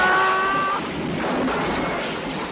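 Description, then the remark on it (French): A horse-drawn carriage overturns during a storm: a shrill screeching squeal gives way to a loud, rough rumbling crash that keeps churning steadily to the end, with no voices. “L'orage a craqué, la voiture a versé.”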